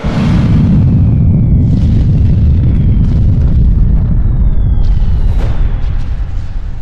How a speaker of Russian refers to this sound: Перед рассветом советские подразделения отошли на безопасное расстояние от вражеских позиций. По приказу командира роты был произведен взрыв.